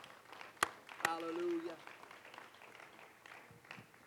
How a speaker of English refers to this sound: Let's clap our hands one more time before you're seated.